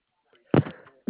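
A sudden, forceful sneeze bursts out of near-silence and trails off quickly, and a second sharp burst cuts in right at the end.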